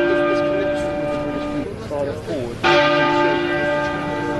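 Big Ben, the great bell in the clock tower of the Palace of Westminster, London, tolls at one-minute intervals during a funeral procession; its deep, sustained ring fades before a second loud strike booms out midway and hums on with long, rich overtones.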